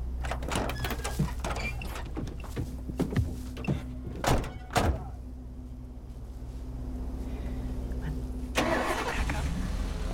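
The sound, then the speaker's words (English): A truck's doors thunk shut a few times over a low rumbling engine as two men climb back into their truck; the engine idles steadily and then swells louder near the end as the truck drives away. “climb back in their truck.”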